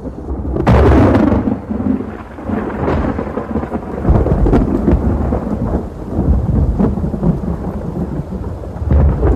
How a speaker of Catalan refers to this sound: S'acosta la tempesta, Adam.